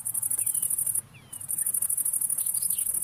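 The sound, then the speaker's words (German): A dense chorus of crickets chirps steadily on a mild evening in a high, shimmering pulse, pausing briefly before resuming, with a soft low rustle underneath and faint bird calls. “Grillen zu.”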